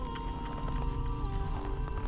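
A steady run of footsteps, each a short sharp tap at an even rhythm, over a continuous low hum. The level stays fairly constant with no clear sense of getting closer.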